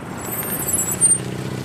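A car pulls up at a traffic check, its engine idling with a low, steady rumble, a faint high hiss riding above it and a brief swell in loudness partway through, as if it rolls to a stop.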